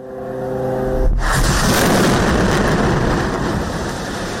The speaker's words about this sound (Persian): غرش جت‌های جنگی اسرائیل و سپس صدای چندین انفجار. این وضعیت دیشب نیز در نوار غزه ادامه داشت. غزه از نزدیک به دو هفته به این سو پس از یک حمله ناگهانی شورشیان گروه حماس بر اسرائیل، هدف حملات سنگین نیروهای اسرائیلی قرار دارد.